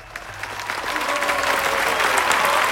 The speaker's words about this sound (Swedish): så jag välkomnar Robin med en applåd.